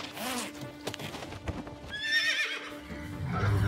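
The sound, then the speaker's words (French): A horse neighs loudly, a shrill quavering whinny that rises and trembles before trailing off, with hoof clops and stable noises around it and no one talking. “Il a du cœur, ce cheval.”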